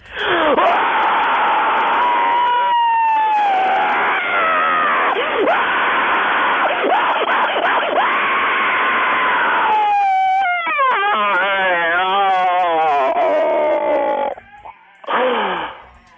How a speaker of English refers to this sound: …, guesting on … show on WFMU with The Scream, where listeners were invited to phone in and scream down the phone, and it's pretty amazing.